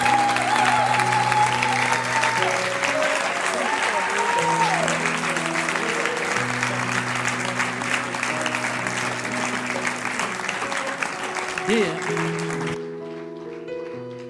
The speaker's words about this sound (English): Come on, can we give God a hand clap? Est-ce qu'on peut applaudir le Seigneur Jésus?